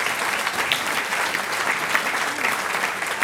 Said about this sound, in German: Ein Applaus für den Singkreis Kaindorf an der Sulm.